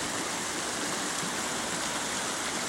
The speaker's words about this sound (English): This is a sound we're used to hearing year-round, but these days, this river only flows for a few months a year.